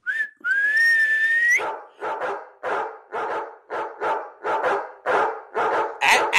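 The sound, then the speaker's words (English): A single rising whistle sounds, then a pack of sled dogs breaks into loud, steady barking, repeated in rapid bursts of roughly two per second. “Did you just summon a dog sled?”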